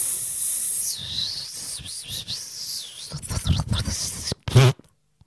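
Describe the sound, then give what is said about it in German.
A voice imitates a long, wavering hiss, a drawn-out psst that rises and falls for several seconds, then breaks into a few shorter, sputtering bursts before cutting off. “Entweder sowas wie Psst.”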